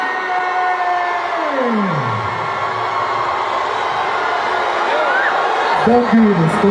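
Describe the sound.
A large crowd at the Somali Music Festival boos a woman loudly and steadily, a dense wall of voices with long droning 'boo' tones that slide downward in pitch, swelling again near the end.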